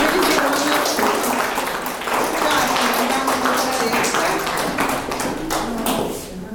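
Steady applause from a crowd as a woman is invited to come forward, a dense, even patter of many hands clapping that fills the whole stretch with no pauses.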